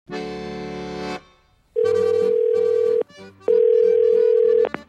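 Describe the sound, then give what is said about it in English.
An outgoing phone call to a boat manufacturer rings: a steady electronic tone, then two long ringback buzzes, each holding a sharp steady pitch over a harmonic drone, separated by a short pause. “I think the next step is probably just to call up as many boat manufacturers as humanly possible.”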